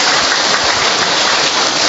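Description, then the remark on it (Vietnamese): A crowd claps steadily and loudly, the dense crackle of many hands merging into a continuous wash of applause that holds for the whole two seconds with no voices over it. “Vỗ tay thật to lên thưa anh chị em.”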